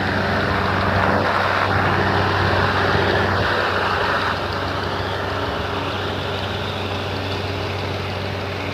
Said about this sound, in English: I got to walk by this this big lawnmower. It's the park guy mowing the park. But it's a different guy.